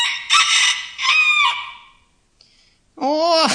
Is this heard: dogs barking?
no